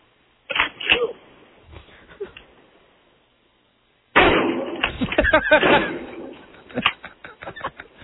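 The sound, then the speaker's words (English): Double-barrel shotgun blasts: a couple of sharp, booming bangs, a few seconds of quiet, then a loud cluster of shots and cracks in quick succession, with fainter pops trailing after. “I got to hear like four or five shots in a row.”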